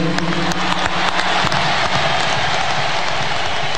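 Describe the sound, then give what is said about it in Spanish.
Massive crowd applause for Lionel Messi after his 800th goal and after winning the World Cup, a dense, loud wash of countless clapping hands with sharp individual claps poking through, holding steady for the whole few seconds with no one speaking. “Aplausos multitudinarios para Lionel Messi luego de ese gol número 800 y luego de, por supuesto, tener la Copa del Mundo en la mano.”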